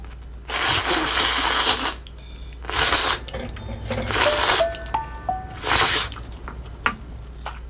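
A family eating with chopsticks in a home dining room: loud, noisy slurping in four bursts, with light clicks of chopsticks and soft chewing and swallowing sounds in between, plus a few brief high squeaky tones. No one talks.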